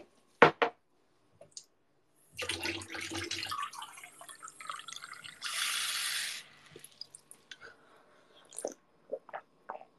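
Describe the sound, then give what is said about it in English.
Tap water runs in a steady rushing stream for a few seconds, filling a glass, with a few small clinks and knocks before and after. No one speaks. “I'm gonna get some water and hydrate.”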